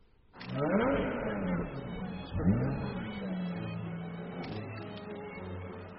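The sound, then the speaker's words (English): A car engine revs up loudly twice, its pitch sweeping upward each time before settling into a steady, rumbling idle that carries through to the end. “Nice car.”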